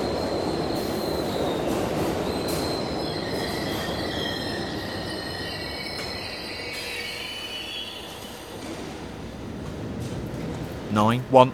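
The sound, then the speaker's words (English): A moving train heard from the driver's cab, with Hounslow Central as its next station: a steady mechanical rumble with thin, high wheel squeals drifting over it, ending in a short, louder tonal burst. “External. Driver's cab.”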